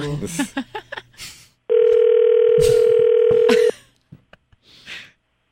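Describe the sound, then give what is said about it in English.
A telephone line rings once: a loud, steady electronic tone held for about two seconds, with short bursts of voices just before and a few faint sounds after. “Answer the phone.”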